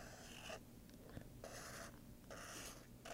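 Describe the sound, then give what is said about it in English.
A pen scratches across paper in three short, scratchy strokes with brief pauses between them, fairly quiet, with no talking, as someone draws a pair of scissors with their eyes closed. “You just drew that with your eyes closed.”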